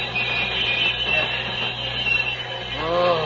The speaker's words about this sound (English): I must bring this train to a stop.